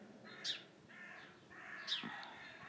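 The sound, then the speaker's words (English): Crows cawing in a rough, harsh series of calls, a few loud squawks standing out over a steady chorus of raspy caws, with no voices present. “Oh, the noisy old crows have always got something to say.”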